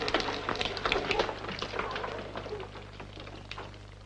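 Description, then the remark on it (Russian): Children splash water while washing up: it splashes and sloshes in irregular bursts, busiest during the first second and a half and then tapering off, with a steady low hum running underneath throughout. “А ну, марш отсюда, хватит брызгать.”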